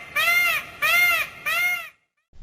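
Percy, a fairly tame peacock kept as a chicken protector by a Sunshine Coast egg producer, gives three loud, harsh calls in quick succession, each a nasal, wailing honk with a slightly arched pitch, followed by a brief silence.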